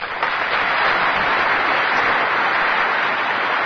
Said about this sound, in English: A rousing round of applause for Lyndon Baines Johnson in 1965, saying it is morally wrong to deprive any of your fellow citizens the right to vote.